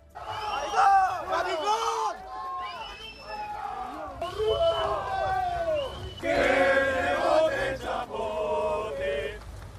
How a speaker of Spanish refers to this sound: Un grupo de estudiantes vertió insultos homófobos contra el ministro Grande Marlaska, al que acosaron al grito de maricón y otros cánticos popularizados por la derecha española.